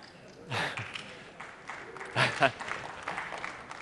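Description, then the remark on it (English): Sparse, quiet audience clapping at a session on the last day of the Party Ed conference comes in a couple of short bursts, with scattered claps between them and a faint murmur of voices underneath. “Those that clap, I know what time you were out until last night.”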